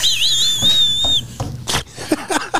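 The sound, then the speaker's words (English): A voice imitates a thin, wavering high whistle for about a second, followed by several breathy, rasping wheezes in short bursts, fairly loud, with no talking. “It's a wheeze and whistle kind of sound.”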